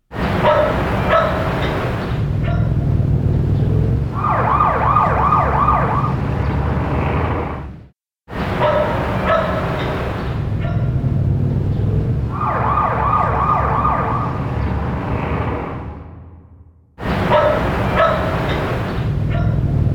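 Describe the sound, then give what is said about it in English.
Steady street noise with a siren wailing and a dog barking repeatedly, heard as it would enter through an open window, the scene looping about every eight seconds with brief gaps of silence between. “The siren and the dog barking, particularly because they are transients, it is much clearer to hear.”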